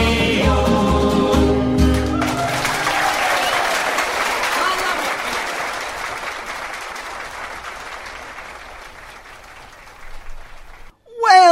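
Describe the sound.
A song's final chords ring out, then a crowd breaks into sustained applause that gradually fades, with a voice briefly speaking at the very end.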